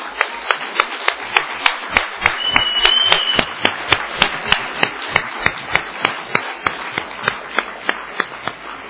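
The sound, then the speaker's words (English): An audience applauds the mums and grandmas on Mother's Day with steady, rhythmic clapping, sharp claps landing about three times per second over a bed of looser scattered clapping, with no voices. “Let's give our mums a round of applause.”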